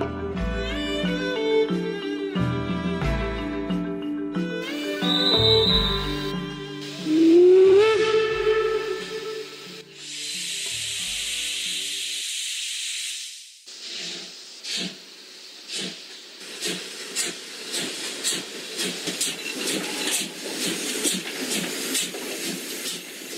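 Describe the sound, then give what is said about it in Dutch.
A steam train whistle blows in long, layered blasts, followed by a loud hiss of venting steam and then the steady, quickening chuff of a locomotive pulling away, the train departing late in the evening from Taku toward Tientsin. “En uiteindelijk vertrok de trein deze avond laat vanuit Taku richting Tientsin.”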